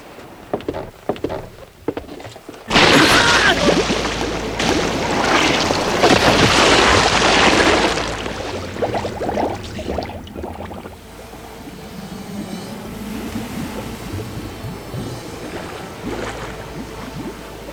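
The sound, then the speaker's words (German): Someone swimming and splashing in water beneath wooden planks: a loud burst of churning splashes for several seconds, then quieter, steady sloshing and lapping that continues to the end. “Schwimmt da unter den Planken jemand im Wasser?”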